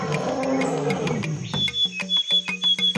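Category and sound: animal, lion roar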